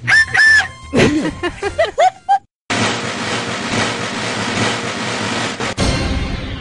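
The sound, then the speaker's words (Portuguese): Voices imitate a passing train: a burst of warbling, whistle-like hoots, a brief pause, then a long, loud hissing rumble that holds steady for several seconds. “Fazer barulho de um trem passando, querem? Faz.”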